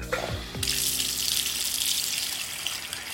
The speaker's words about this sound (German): wird derweil die Tragweite ihrer finanziellen Probleme deutlich, als sie im Badezimmer steht und ihr Geschirr im Waschbecken wäscht. Sie musste sich zwischen einem Herd und einer Spüle in der Küche entscheiden.